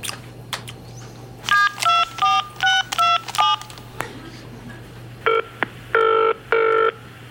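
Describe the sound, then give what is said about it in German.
A rapid run of about eight clear phone keypad beeps, a brief pause, then a few longer electronic tones as a mobile phone call to a switched-off mobile starts ringing, over a low steady hum. “Handy! Hab ich schon. Ich versuch's nochmal.”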